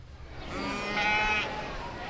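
Sheep and lambs bleat inside the sheep barn arena at the Iowa State Fair, where pens hold four lambs each around a central stage, with one drawn-out, wavering call rising near the middle over a steady low rumble and faint background voices.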